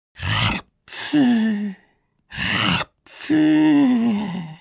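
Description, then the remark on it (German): Two loud snores voiced by a person imitating a girl snoring like a lumberjack during a class lesson, each a harsh, rasping inhale followed by a long, droning, groaning exhale, with a short pause between cycles. “Jetzt schnarchte Vicky auch noch, und zwar wie ein Holzfäller.”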